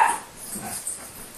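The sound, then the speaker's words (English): Two dogs, BB and Ollie, playing: a sharp yip or bark at the start, followed by softer whimpering and scuffling noises for a moment, with no one talking. “I must move away from BB and Ollie playing so you can hear this.”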